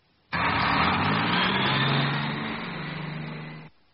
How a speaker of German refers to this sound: Das ist ein Volkswagen, ein deutscher Wagen. Tja, das ist kein Mercedes, kein Porsche. Das ist ein Volkswagen. Hören Sie.